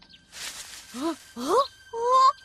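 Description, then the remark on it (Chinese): Calls from a group of weasels: three short, squeaky squeals with rising pitch follow a breathy rustling hiss, loud, each call sliding upward in quick succession. “这是什么声音？”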